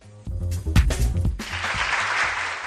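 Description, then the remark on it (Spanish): Applause for the young Valladolid Symphony Orchestra (Joven Orquesta Sinfónica de Valladolid) and its 20th anniversary gala swells in after a brief voiced, tonal opening. It settles into a dense, steady wash of many hands clapping that holds at a fairly loud level until the end. “Y este aplauso porque la joven Orquesta Sinfónica de Valladolid va a celebrar su gala vigésima de aniversario”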